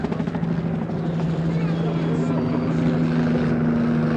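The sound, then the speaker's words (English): A military police helicopter flying in low gives a steady, loud rotor roar that fills the whole stretch, a continuous low engine hum running under broad, churning noise without any pause. “Military police helicopter.”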